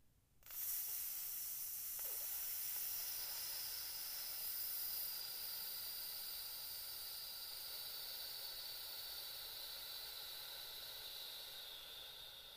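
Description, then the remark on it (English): A long, steady hissing exhale in a breathing exercise, breathing in through the nose and out with a hiss, bright and breathy, held for about twelve seconds and tapering slightly toward the end, with no talking. “breathe out, just like that with that hiss.”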